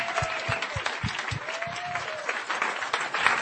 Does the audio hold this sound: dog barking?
no